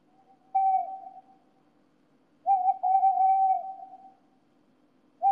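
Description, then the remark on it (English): A bird calls repeatedly with steady, hooting whistle-like notes in three bursts, the middle one drawn out longest, fairly loud with no talking. “Tell that bird to quiet down.”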